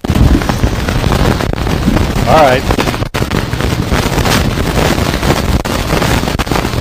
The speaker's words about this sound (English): That's one heck of a lightning strike, isn't it?